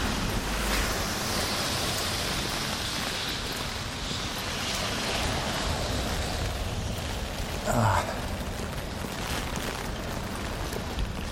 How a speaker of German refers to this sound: Ich meine, wer bleibt bei so einem Wetter jetzt eigentlich hier noch an der Ampel stehen, wenn die rot ist? Es kommt kein Auto, es regnet, also es gießt aus Eimern.